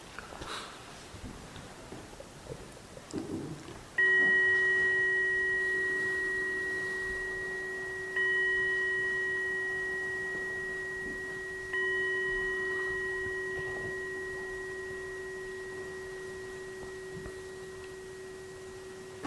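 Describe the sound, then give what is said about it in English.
A Zen clock chime rings out three times after a few quiet seconds, each strike a clear, sustained metallic tone that hums on and slowly fades into the next. “It's a Zen clock.”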